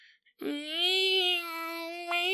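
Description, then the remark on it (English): A man's voice imitates a strange creature crying like a baby and a cat at once: a single drawn-out, high, whining wail with no words, holding steady for about two seconds. “It sounds like an adult man trying to imitate a baby and a cat at the same time.”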